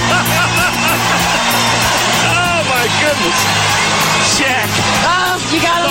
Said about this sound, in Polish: Takie reakcje komentatorów budził na parkiecie. Jak słyszeliście, tłumy kibiców go kochały.